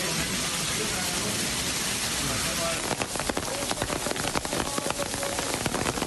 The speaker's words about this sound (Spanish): 300 incidencias, 50 calles cortadas... ...un verdadero caos debido a la tormenta de lluvia y granizo... ...que tiñó de blanco e inundó las calles hispalenses